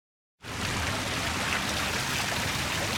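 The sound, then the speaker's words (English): A steady rush of water cascading down a fountain at the center of a roundabout in downtown Yuma in the late afternoon. It starts abruptly after a brief silence and continues at an even level with no voices. “Water cascades down a fountain at the center of a roundabout in the heart of Yuma's downtown district.”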